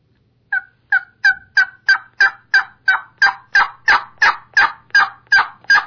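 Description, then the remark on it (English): A steady series of about fourteen hen turkey yelps, played on a turkey call, each sharp and evenly spaced, growing gradually louder and more raspy, with no talking. “This is just a hen yelping.”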